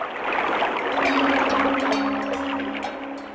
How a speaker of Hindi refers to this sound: नदी पत्थर चट्टानों से टकराकर और तेज बहती है।